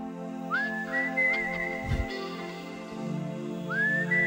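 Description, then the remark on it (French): A clear whistled melody leads a rock song intro, gliding up into long sustained notes and returning after a pause, carried over a steady, warm instrumental backing. “C'est-tu beau l'intro, tout le monde le siffle hein?”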